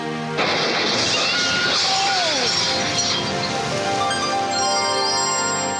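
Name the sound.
glass shattering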